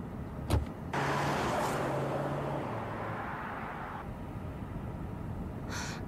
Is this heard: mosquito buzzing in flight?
no